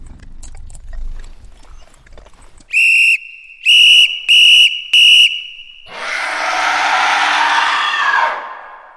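whistle being blown

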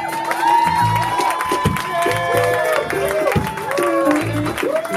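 audience applause and cheering

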